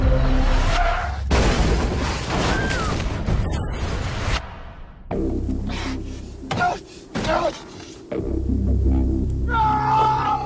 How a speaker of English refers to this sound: And then they're involved in a car accident.